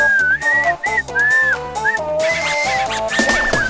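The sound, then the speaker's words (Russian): A person whistles a lively melody, the clear pitched tones gliding and shifting between short phrases, with a backing of steady instrumental music throughout. “Я еще, оказывается, умею свистеть.”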